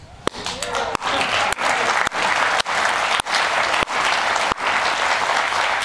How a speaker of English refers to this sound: Why are they clapping for you in the studio, man?